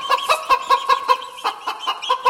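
chicken clucking

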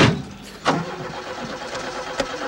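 car engine cranking

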